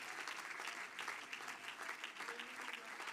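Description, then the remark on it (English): A church audience claps their hands in a steady, dense wash of applause that holds for a few seconds, with no voices standing out. “Come on, clap your hands.”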